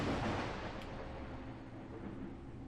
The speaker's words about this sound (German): Okay. Hat hier mieser Blitz eingeschlagen.